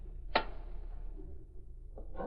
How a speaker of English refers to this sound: The fuse is burning.